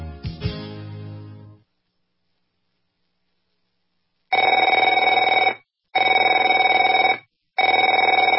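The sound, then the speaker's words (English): A telephone rings in three steady, evenly spaced bursts of harsh electronic trilling, each lasting over a second, following a brief low thump and a stretch of silence. “Afraid to answer it?”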